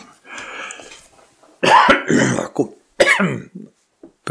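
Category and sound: human body sound, cough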